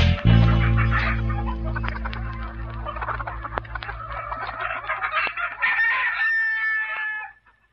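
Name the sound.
rooster crowing cock-a-doodle-doo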